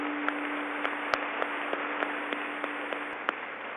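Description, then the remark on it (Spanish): A crowd applauds the ambassador of Spain in Colombia, clapping steadily throughout, a dense, even wash of applause with a few sharper individual claps popping out. A faint low hum sits underneath, and no one speaks. “En Soacha, que ha tenido tanta pobreza y tantas dificultades, pero tanta riqueza humana, tanta capacidad humana, démosle un aplauso al embajador de España por su apoyo.”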